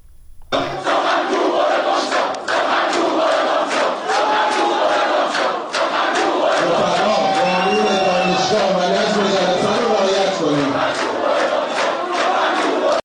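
A large crowd of students chants protest slogans in unison during a speech by Ali Bahadori Jahromi, interrupting it; loud and continuous, with rhythmic rising and falling voices filling the whole recording.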